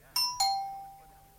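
A doorbell chimes twice in quick succession, a bright ding-dong whose second tone rings out and slowly fades, with faint background hum and no talking.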